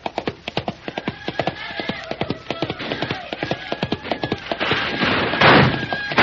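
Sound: horse galloping hooves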